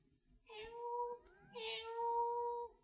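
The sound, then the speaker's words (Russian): A cat meows twice in drawn-out, plaintive calls, each lasting about a second with a short pause between, fairly clear against a quiet background, as it asks to be let in. “к нам кошка просится.”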